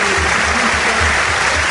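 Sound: stadium crowd ovation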